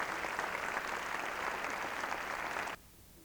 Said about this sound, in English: How about a big round of applause for all of our craft instructors and craft students? Thank you all very much for being here.